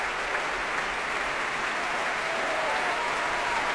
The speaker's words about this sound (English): And here they come again. Nezet-Séguin applauding this wonderful singer.